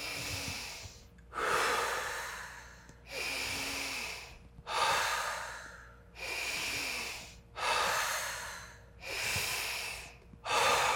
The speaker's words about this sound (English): We're gonna go to the 2-3 breathing. 2 seconds in, 3 seconds out. 5 of those.